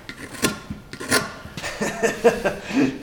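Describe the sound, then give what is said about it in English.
A Tlingit master carver at a National Guard Armory uses a reverse bent knife to shave a block of wood into the shape of a dorsal fin. It makes a series of short, raspy scraping strokes, repeated every half second or so, fairly loud with no voices. “He's slowly shaving a block of wood into the shape of a dorsal fin with an oddly shaped knife.”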